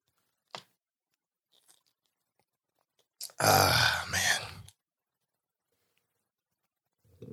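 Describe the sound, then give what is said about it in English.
Someone takes a drink of water: a sharp click, a few faint small sounds, then a loud, rough gulp and breathy exhale lasting about a second before quiet returns. No one speaks. “Let me get a little water here.”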